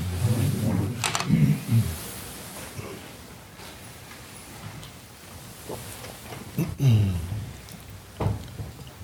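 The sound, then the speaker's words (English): Steady morning rain hisses continuously in the background, a soft even wash of noise, with a few brief murmurs of voice rising above it now and then. “Very nice that the rain this morning.”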